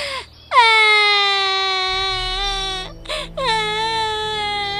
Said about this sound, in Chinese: 爱丽丝越哭越伤心，哭声传遍了森林的每个角落。